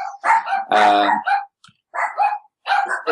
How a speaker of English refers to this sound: Charlie and Fifi have found somebody to bark at.